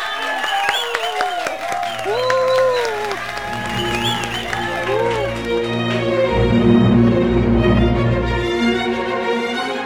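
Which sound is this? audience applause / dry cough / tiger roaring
audience applause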